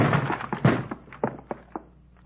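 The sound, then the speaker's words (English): A shoulder slams into a locked door: a burst of heavy, dull thuds, then several fainter, evenly spaced knocks fading out, with no voices. “Door's locked. Give it your shoulder.”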